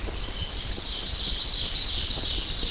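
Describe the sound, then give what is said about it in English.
Birds sing faintly in the canopy of a dense forest outside Kashina, their high, thin calls blending into a steady, insect-like chorus that fills the air continuously, with no voices present. “In a dense forest outside Kashina, birds sing in the forest canopy”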